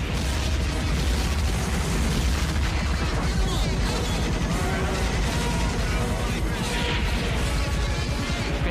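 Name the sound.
bomb explosions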